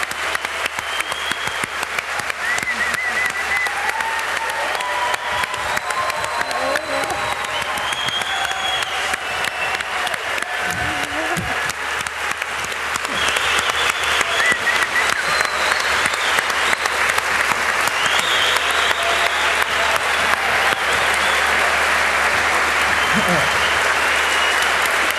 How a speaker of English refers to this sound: We have to clap. It's not over yet.